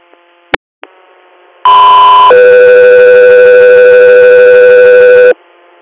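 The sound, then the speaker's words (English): Radio dispatch alert tones for Echo 3 Air: two steady, loud electronic tones in sequence, a higher pitch for under a second then a lower one held for about three seconds, preceded by a couple of short clicks and radio static. “Echo 3 Air, stand by for tones.”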